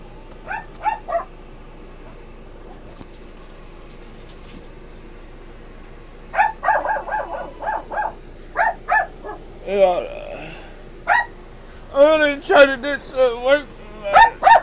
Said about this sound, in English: Excuse the dog behind me, guys.